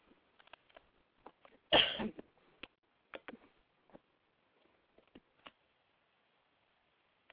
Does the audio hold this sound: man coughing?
yes